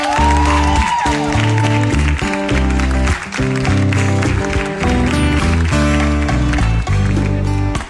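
Steady audience applause for the singer's partner, loud and continuous, over live music with a thumping bass line and sustained chords. The clapping blends into the band for the whole stretch, with a brief dip partway through.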